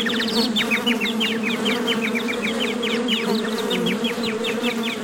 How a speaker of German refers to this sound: Und die Bienen summten sehr bedrohlich und einige Wespen hatten ihn schon gestochen.